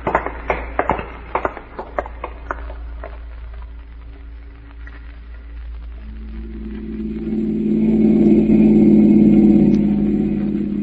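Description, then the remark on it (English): Several sharp clicks and knocks come first over a low hum, then a car engine swells into a steady, loud rumbling drone as it drives. No one speaks. “Now let's get to the car.”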